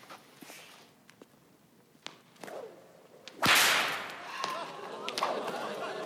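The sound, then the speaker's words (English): Sharp whip cracks snap out several times, making sparks shoot out of the whip, with one loud, explosive crack midway followed by a rushing swish, and faint movement and voices in the background. “That's how you make sparks shoot out of a whip.”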